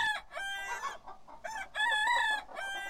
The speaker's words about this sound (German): Jetzt kommen wir gerade an Hühnern vorbei.